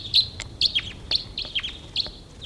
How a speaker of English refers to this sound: Two birds coming in here.